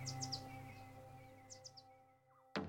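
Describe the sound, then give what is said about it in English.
Quiet, high bird chirps come in two quick bursts of three notes each over a steady low hum on a warm, fine spring Saturday morning, ending with a sudden sharp noise. “And as Madison continued walking, the temperature kept rising, the birds singing just a little bit louder.”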